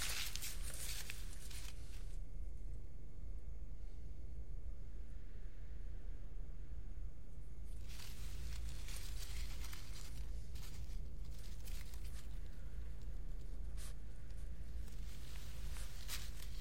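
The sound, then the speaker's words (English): A woman chews a piece of a paper letter, with soft squishy, crinkly bursts that come and go irregularly over a steady background hiss. No one speaks. “She puts a piece in her mouth and chews.”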